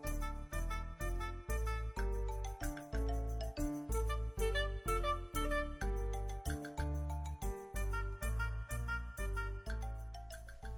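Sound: doorbell ringing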